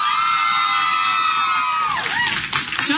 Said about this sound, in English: Number three was, if you really think that Harry is a horcrux, make your embarrassing cheering here.